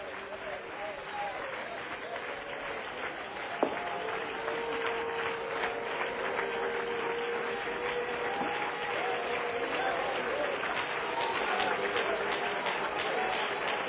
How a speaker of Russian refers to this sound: Я счастлив. Хлопайте, восклицайте, как хотите. Я привык к этому.